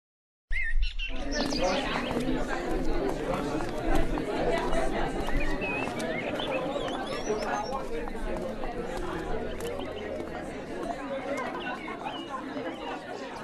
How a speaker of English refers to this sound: Northwestern's campus is lively and loud. Students chatter in libraries and dining halls.